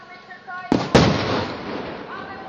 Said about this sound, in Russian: Со сцены Майдана звучат призывы к милиции прекратить выстрелы.